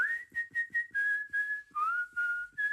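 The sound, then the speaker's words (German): Someone whistles a song melody, clear and steady, moving through several sustained notes with short breaks and gentle pitch slides. No one speaks. “Ist wahnsinnig gut gepfiffen.”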